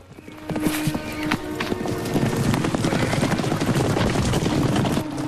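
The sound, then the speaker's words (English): A herd of mustang horses gallops along a dry, shingly section of riverbed, hooves drumming in a dense, rapid clatter that builds quickly and stays loud throughout, with a faint whinny near the start. “The Mustangs streak along a dry, shingly section of riverbed.”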